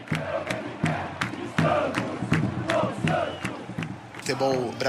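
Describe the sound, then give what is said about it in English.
A stadium crowd of about 25,000 people roars, chants and screams for Marta, who wears number 10, at a game. It is a dense wash of many voices with rhythmic surges and sharp shouts rising above the din, loud throughout. “Marta would cry in the dressing rooms because we had audiences coming to the stadium of 25,000 people, and they would all scream for her.”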